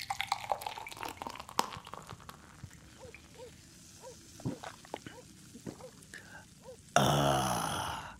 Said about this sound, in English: Here's your beer. Let me pour it for you.